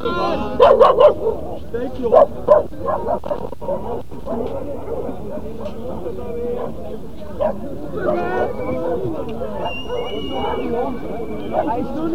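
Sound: dog barking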